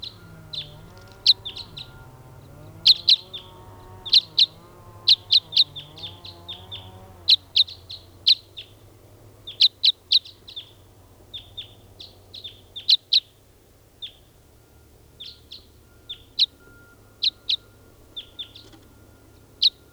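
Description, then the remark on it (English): Short, sharp bird chirps repeat steadily throughout, fairly loud, with a faint low background hum underneath during the first few seconds; a recording of bird number 499 being tested. “Testing now, bird 499.”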